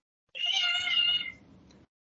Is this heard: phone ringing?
no